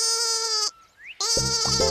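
A sheep bleats loudly, two strong wavering calls separated by a short pause, the second one with a pulsing, shaky quaver; no one speaks.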